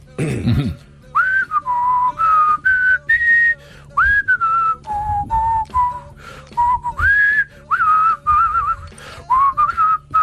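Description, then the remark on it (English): A person whistles a slow, recognizable national anthem melody, sustained pitched notes rising and falling in phrases with short breaths between, fairly loud, no talking over it. “I would like your best attempt at the national anthem right now.”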